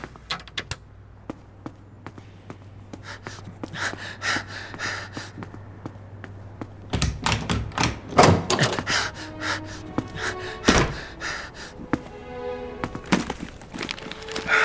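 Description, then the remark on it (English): A pull door is wrestled open, with a burst of wooden clunks, rattles and knocks over a low steady hum, followed by scattered taps and a few breathy sounds. “It's a pull door.”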